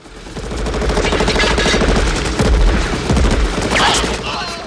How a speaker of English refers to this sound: As the seaplane accelerates, John shoots the jeep's driver and the vehicle plunges into the sea.